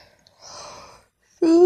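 A yawn: a soft, breathy intake of air, a brief pause, then a loud, drawn-out voiced groan that slides upward in pitch as the mouth opens. No words are spoken.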